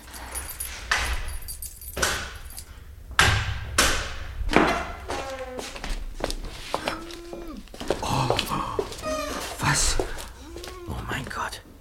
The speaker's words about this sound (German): So, und jetzt lass uns schnell die Tür aufschließen.